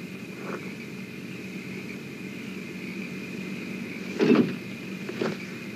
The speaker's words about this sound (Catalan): El cotxe s'apropa a poc per la dreta del nostre angle visual i s'atura. Els ocupants baixen del cotxe.